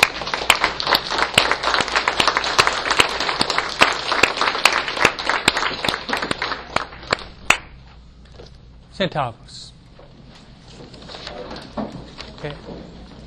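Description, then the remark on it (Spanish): A standing audience applauds for a new Pope, a dense, loud patter of many hands that keeps up for several seconds before thinning and dying away, followed by faint rustling and a brief voice. “Vamos a, de pie, vamos a dar un aplauso para un nuevo Papa, ¿eh?”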